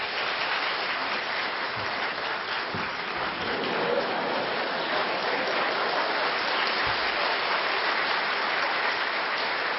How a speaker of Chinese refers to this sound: 让我们再一次用热烈的掌声欢迎四位教授的到来。